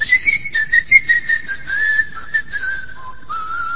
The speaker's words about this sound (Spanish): Usted llega a la isla de Tracoda y oye los silbidos.